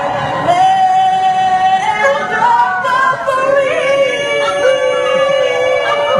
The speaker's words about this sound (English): Is someone actually howling? Goodness.